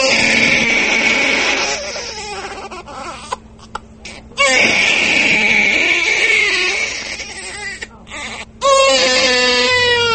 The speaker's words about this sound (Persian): از داخل صدای کودک نوزاد به گوش می رسد.